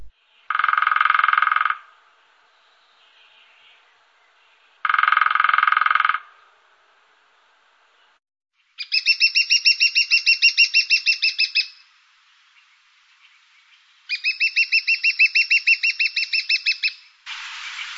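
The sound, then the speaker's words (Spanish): Lesser spotted woodpecker: two short bursts of rapid drumming made with the beak, then two longer series of high, thin, repeated kee-kee calls, clear against a quiet background with no voices. “Vamos a oír tres de las especies que tenemos aquí en la península de pájaros carpinteros. Pico menor.”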